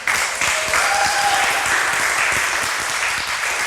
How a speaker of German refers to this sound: So, liebes Publikum, bitte gebt uns jetzt den Applaus für die erste Präsentation.